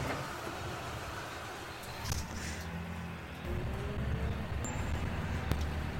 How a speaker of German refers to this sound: Also, starten wir das Fahrzeug. Starten.